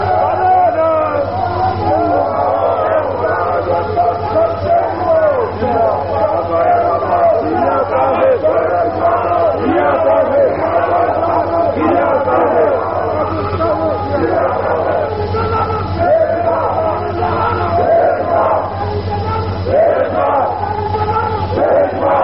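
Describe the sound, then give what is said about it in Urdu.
A large crowd, the audience at a speech, chants slogans in loud, continuous waves of massed voices with a rough rhythmic pulse, dense throughout, over a steady low electrical hum. “اب آپ مجھے بات کرنے دیں، وقت بہت بیت چکا ہے، آپ کے نعرے میرا بہت سارا وقت لے لیں”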